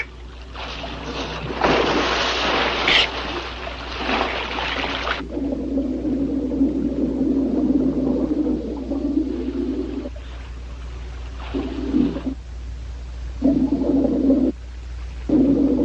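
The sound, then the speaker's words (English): A burst of splashy, chattering clicks from Flipper the dolphin gives way to a run of warbling, tonal dolphin whistles that come in several separate phrases with short gaps, loud, with no talking. “I told you Flipper was the greatest dolphin in the world.”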